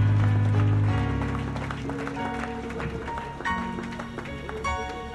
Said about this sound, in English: Somebody give the Lord a shout for what you're watching up there. This is the best of the best of the best. Clap louder, everyone, please.